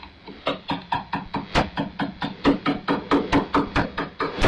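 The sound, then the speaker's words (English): A craftsman drives a chisel with a wooden mallet into a large piece of oak, carving a coat of arms, in a steady run of sharp knocks, about three per second, over a faint hum and no talking. “Well, if you can't identify that sound, it's a chisel and a wood hammer.”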